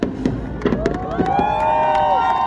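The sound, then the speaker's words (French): Evening fireworks for 14 July (Bastille Day) in France burst in a rapid series of sharp pops and crackles over a murmuring crowd of families, friends and tourists, with rising whistles and a long sustained whistling tone sweeping upward through the second half. “Le 14 juillet, après le défilé sur les Champs-Élysées, la tradition du feu d'artifice en soirée.”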